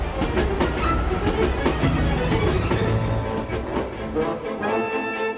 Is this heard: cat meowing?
no